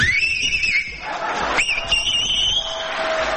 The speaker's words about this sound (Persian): ببین این آقا از بخواب 3 تا انگشتش یا 2 تاشو گذاشته تو دهنش داره سوت میزنه. من بهش میگم که توی جوون حیف دهنت گشاد میشه، نمیخواد انگشتات دهنت بکنی. شما همینجوری هم میتونی سوت بزنی.